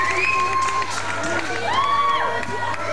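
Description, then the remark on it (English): A live crowd at a band concert cheers and shouts continuously, with a dense wash of voices and high whistles rising over it, loud throughout. “My uncle is over there in the crowd.”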